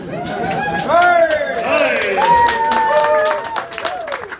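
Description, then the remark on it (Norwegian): A crowd applauds with steady, dense clapping that lasts a few seconds, while voices whoop and call out over it, then the clapping thins toward the end. “Applaus.”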